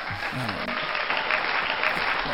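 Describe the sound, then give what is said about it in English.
A steady burst of crowd applause for Grogu hearing Din say his name, many hands clapping in a dense, even wash of noise that holds at a constant level, with faint voices murmuring underneath. “Yeah, so let's all give another round of applause for Grogu hearing Din say his name.”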